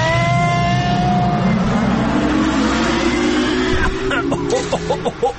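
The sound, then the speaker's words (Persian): A time machine departs: a loud, engine-like whirring hum sweeps steadily upward in pitch for several seconds, then breaks into a few sharp, sputtering clicks at the end. No one speaks. “آهان، دیگه سفارش نکنم و ماشین جای خوبه میبری یا آفرین برو برین.”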